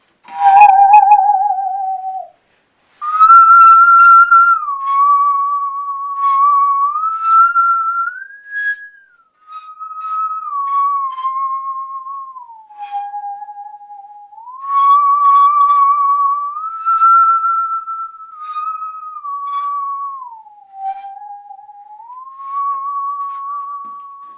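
A musical saw sings a slow, wavering melody, its pure tone sliding smoothly between notes as the blade is tilted, with a steady vibrato made with the right foot. It plays loudly and alone, with only a brief pause near the start.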